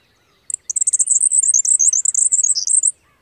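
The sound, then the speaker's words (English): A male grasshopper sparrow's rapid, very high-pitched song: a brief lead-in note, then a fast, sputtering outburst of thin, tinkling notes lasting over two seconds, heard clear with no other sounds. “Surprisingly, male grasshopper sparrows sometimes sing an entirely different kind of song, an extremely rapid outburst of exceedingly high notes.”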